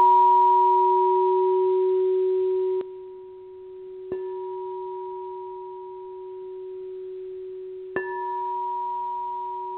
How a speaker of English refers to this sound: Now that, of course, were those pealing chimes.